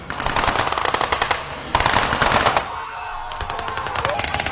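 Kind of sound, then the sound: gunfire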